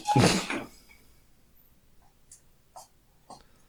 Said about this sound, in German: Ich glaube persönlich, ich mache mal ganz kurz die Tür zu, weil meine Frau läuft, glaube ich, in Zehenspitzen mittlerweile.